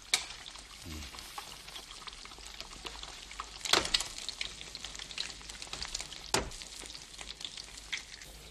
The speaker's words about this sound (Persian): مفتش از سبدی پر از تخم مرغ چند تخم مرغ برمی‌دارد و در روغن داغ ماهیتابه می‌شکند.